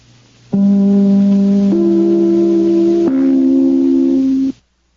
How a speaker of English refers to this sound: Just as soon as I ring my chime, this is NBC, the National Broadcasting Company.